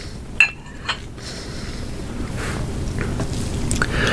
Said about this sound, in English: Look, sip of my tea.